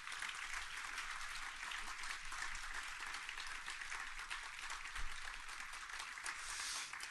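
A crowd applauds steadily for several seconds, a dense, continuous wash of many hands clapping at an even loudness with no voices standing out.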